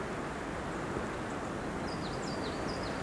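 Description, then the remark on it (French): A few birds chirp in short, downward-sliding calls that grow more frequent toward the end, heard over a steady wash of outdoor wind-like noise on a half-snow-cleared, ice-crusted trail during a walk. No one speaks. “gazouillis de quelques oiseaux.”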